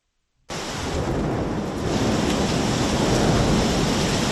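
Heavy, torrential rain in central Athens, Greece, on a Thursday during a wave of bad weather, pours down in a dense, continuous roar after a brief moment of silence, swelling slightly louder partway through, with a low rumbling storm quality and no voices.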